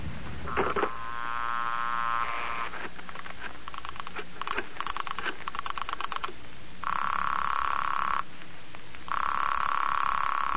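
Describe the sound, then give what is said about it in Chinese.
A telephone dial whirs and clicks through several digits as a call is placed to the Peninsula Hotel in Hong Kong, then two long, steady ringing tones follow with a short gap between them, heard clearly with no one talking. “哎，你等等，我先来打个电话试试。”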